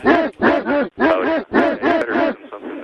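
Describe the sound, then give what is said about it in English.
A voice imitates three Labradoodle dogs barking: a quick, rhythmic run of about seven loud, bark-like yelps with rising and falling pitch, fading into a softer tail at the end. “Just one Labradoodle? There's three of them. Three of them. They're barking in harmony.”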